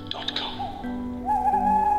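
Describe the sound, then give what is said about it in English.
A human voice imitates an owl's hoot, giving a couple of drawn-out, wavering tonal calls, fairly loud, after a short breathy lead-in. “twit to woo and see you later.”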